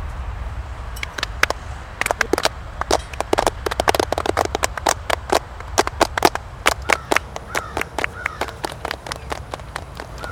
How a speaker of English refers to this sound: Everybody was focused. All right, who wants to clap it up?